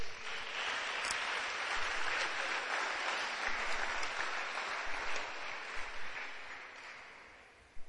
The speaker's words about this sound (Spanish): Damos un aplauso a Dios.